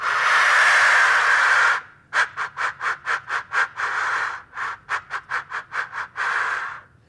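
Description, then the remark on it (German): A black grouse decoy call is blown: a long breathy hiss, then a quick run of short, evenly spaced hissing pulses, ending in another sustained rush of air. No one speaks. “Und jetzt probiere ich mal diesen Birkanlocker aus.”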